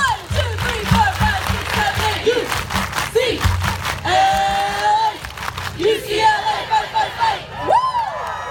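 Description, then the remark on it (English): A large UCLA crowd claps the A-clap chant in a loud, rhythmic pattern, with shouts and high whoops rising over the steady claps and a dense roar of voices throughout. “I grew up knowing the A-clap.”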